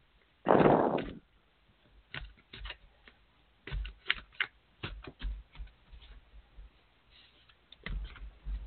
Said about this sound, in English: Take a nice deep inhale. Exhale out and just tell me to stop shuffling when you're ready.